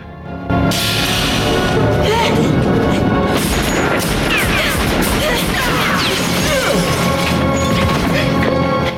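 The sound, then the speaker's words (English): A loud, chaotic burst of gunfire in an exchange of fire, with sharp cracks and booms, followed by smashing and crashing as a stray bullet breaks a shuttered window, dense throughout with a few muffled voices mixed in. “In the exchange of fire, a stray bullet broke a shuttered window and light streams in.”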